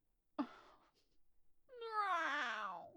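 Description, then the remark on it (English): A person imitates a cat, giving a short sharp yelp followed by a long, drawn-out meow that bends downward in pitch, fairly loud with no talking. “Okay, I need to stop meowing. I started doing that since I've been doing more cat audios.”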